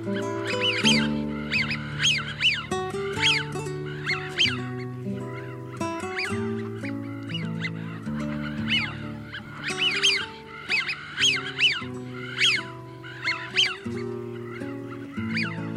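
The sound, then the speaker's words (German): Eurasian wigeon give repeated whistling, rising-and-falling calls in quick bursts, fairly loud, over a steady low droning background that sounds like soft sustained music. “Das war die Pfeifente.”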